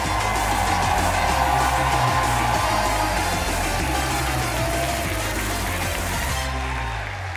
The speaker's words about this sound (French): Nous sommes en direct de l'Européen à Paris pour le premier 301 vues au public. Installez-vous confortablement dans la salle ou devant votre périphérique de diffusion multimédia et faites un tonnerre d'applaudissements pour Cyprien.